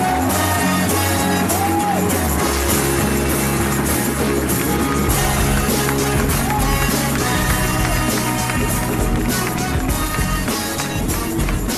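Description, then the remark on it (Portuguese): A live audience applauds and cheers loudly and without pause to welcome the hosts onto the stage at a live show, with whoops and shouts rising over a dense wash of clapping that stays at a steady level throughout. “Então, eu quero pedir uma salva de palmas pra receber aqui no palco os podcastinadores, senhoras e senhores!”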